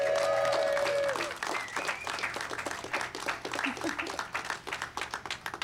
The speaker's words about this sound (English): This year, I'm proud to say we reached our first of many goals, which is to make sure that all of our city programs are fully compliant with the ADA, and that is worth applause.